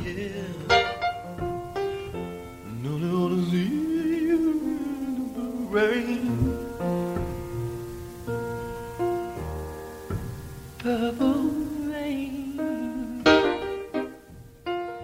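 A sparse, stripped-down early demo of a song, recorded in the artist's house: a lone voice sings slow, drawn-out notes that slide between pitches over soft sustained accompaniment, fairly loud, with brief pauses between phrases.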